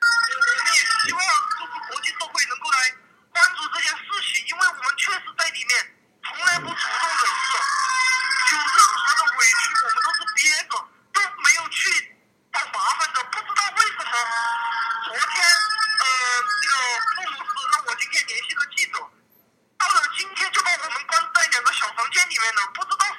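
A woman held in a Dutch immigration detention centre wails and sobs almost without pause over a thin, tinny telephone line, her anguished cries rising and breaking, with only a few brief gaps for breath.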